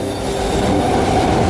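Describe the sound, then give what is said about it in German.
A crowded commuter train rumbles steadily along the rails, a dense low roar with a faint high metallic whine, sustained for the whole moment with no voices. “Jeden Tag in diesem überfüllten Zug zur Arbeit fahren, Tag ein, Tag aus.”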